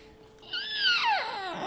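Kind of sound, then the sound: household object, squeaking door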